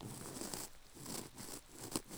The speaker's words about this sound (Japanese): 雨音に耳を傾けて、神社の縁側でゆったり過ごす時間。私たち二人だけしかいないみたい。祭りの華やかな音すらない雨の音と、静かに聞こえる君の呼吸の音だけ。